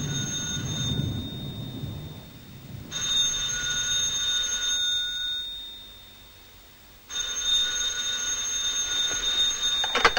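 A bedside telephone rings in three long, shrill bursts separated by pauses, clear, over a steady low rumble in the background. No one speaks.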